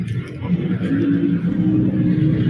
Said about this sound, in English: Wow, big truck. Okay, so no sound insulation in here.